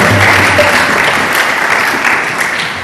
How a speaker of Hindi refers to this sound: यीशु मसीह के जलाल के लिए जोरदार तालियां।